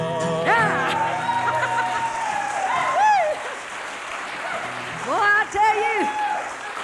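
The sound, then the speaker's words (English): An audience applauds steadily for several seconds, a dense wash of clapping with excited voices and whoops rising over it in bursts near the start and again toward the end. “There ain't nothing I like better than all that applesauce you're giving. I mean, hand applause you're giving me out there.”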